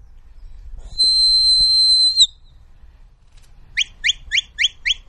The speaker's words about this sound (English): That's a signal for the dog to move right. The sheep are in the distance. The dog will get around the back of them and stop them towards us. Each whistle is a particular direction to the dog.